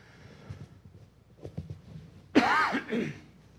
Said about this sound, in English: As I try not to cough in the microphone.